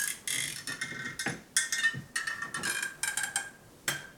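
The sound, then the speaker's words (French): A bedroom door creaks at 5:30 in the morning in a series of scratchy, high squeaking groans, several uneven bursts with brief pauses between them, fairly quiet and with no one talking. “C'est la porte de ma chambre.”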